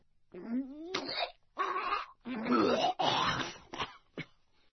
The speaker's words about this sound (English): Imagine the sound of someone being sick.